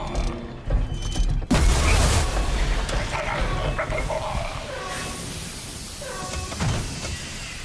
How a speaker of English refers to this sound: In the Imperial work camp where Rampart is imprisoned, there's an Ugnaught that breaks a valve and an alarm goes off. Do we have that sound? It goes like this.